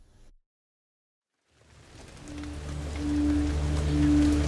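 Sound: rain falling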